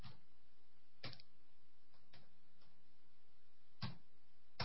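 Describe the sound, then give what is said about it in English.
A handful of sharp clicks land at irregular intervals as someone types, individual keys being pressed slowly on a keyboard, with a quiet hum and no voices in between. “Typing it in now.”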